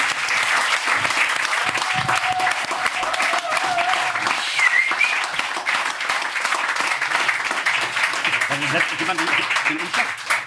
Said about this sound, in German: Dafür natürlich ein mega fetter Applaus.